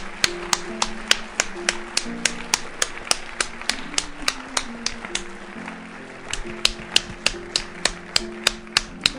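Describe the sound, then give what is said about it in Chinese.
Steady, rhythmic clapping rings out in sharp, evenly spaced beats, like a crowd clapping together in time, as people applaud one another, over a low sustained musical drone. No one speaks. “这是天堂的滋味，彼此为彼此鼓掌。”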